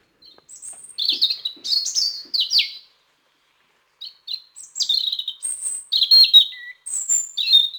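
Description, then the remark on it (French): A European robin sings alone in clear, high warbling phrases with thin tinkling notes and quick trills, pausing briefly mid-clip before resuming a varied, fluid song. “Ensuite, dans ceux que nous connaissons énormément, ça va être le rouge-gorge familier.”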